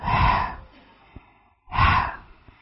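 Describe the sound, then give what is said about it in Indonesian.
Two breathy exhaled "ha" sounds, the letter ha pronounced as a demonstration, almost all air with little voice, moderately loud, separated by a short pause with a couple of faint clicks. “Yang keluar apa? Didominasi oleh nafas.”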